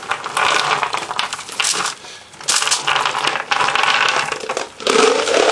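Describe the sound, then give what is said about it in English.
Wax paper being moved crinkles and rustles in loud, crackly bursts, with brief pauses around the second and near the end before the crumpling noise resumes. No voices are heard. “So, wax paper, which I already put on here.”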